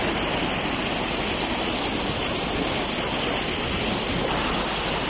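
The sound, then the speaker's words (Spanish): Loud, steady roar of the swollen Saja river rushing past at Mazcuerras during a flood pre-emergency alert, a dense continuous wash of churning water with no pauses and no voices. “Y es que así suena el río Saja en estos momentos en esa localidad.”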